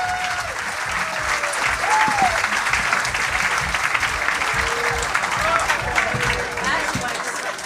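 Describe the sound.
An audience applauds steadily for several seconds for a volunteer called up from the audience: a dense, even clatter of many hands clapping, with a few voices calling out over it.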